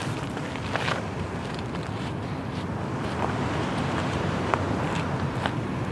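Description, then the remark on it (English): Gentle waves lap softly against the shore of San Francisco Bay at night, a steady wash of water with occasional small splashes, mixed with a light outdoor wind rumble and no voices. “A lovely halo around the moon, and we can hear the gently lapping waves of the bay.”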